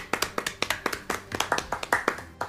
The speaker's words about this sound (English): Applause